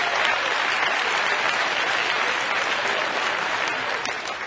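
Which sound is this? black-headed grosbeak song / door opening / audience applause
audience applause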